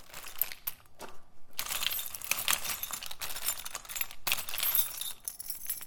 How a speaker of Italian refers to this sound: Stringo le chiavi in mano.